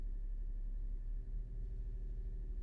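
A car engine hums steadily at a low, muffled rumble, heard from inside the vehicle as it pulls away to drive back to an apartment building, with no voices.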